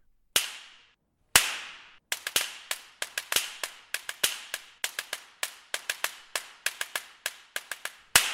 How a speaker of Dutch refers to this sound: Er zit overigens een heel apart instrument in deze symfonie, namelijk de zweep. En dat is niet gewoon een zweep, maar een slaginstrument dat klinkt als een zweep, zo.